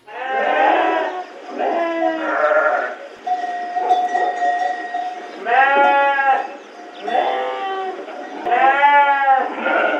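Several sheep bleat repeatedly and loudly, their wavering calls overlapping one after another, with a faint steady hum briefly audible in the background.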